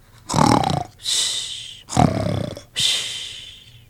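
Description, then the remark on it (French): A voice imitates a wolf snoring after it falls asleep: two slow cycles of a rough, throaty inhale followed by a long breathy, hissing exhale, loud with no other sounds. “Et de nouveau, le loup penche la tête, il bâille, oh, ses yeux se ferment et bam, il tombe endormi.”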